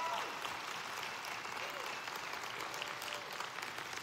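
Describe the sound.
A crowd in Albuquerque applauds steadily as the speaker's brother comes up to share stories, a dense, even wash of clapping hands that holds at a constant level throughout, with faint voices mixed beneath it.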